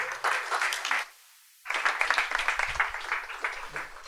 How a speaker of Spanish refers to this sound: Sisplau, un fort aplaudiment